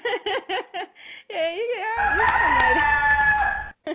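A few quick clucking bursts lead into a long, loud rooster crow that rises and wavers, heard over a rough, noisy background toward the end.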